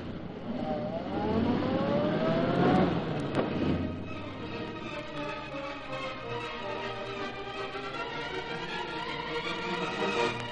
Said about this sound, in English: He's chasing that other car. It'll be another holdup, maybe. Start this car quick. We'll get him this time.